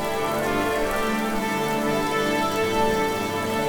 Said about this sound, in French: Les violons et les harpes chantent doucement, et bientôt, la fillette s'endort au son de la pluie.